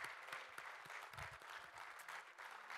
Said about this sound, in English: Let's just give Him a hallelujah and amen, a round of applause, whatever.